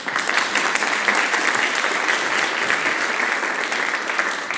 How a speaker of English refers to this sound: Please welcome Tessa K9 with a huge round of applause.